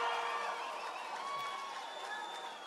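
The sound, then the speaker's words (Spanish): A crowd applauds steadily throughout, a dense wash of clapping with faint cheering mixed in, fairly soft, with no clear voices standing out. “¡Viene el aplauso, hombre!”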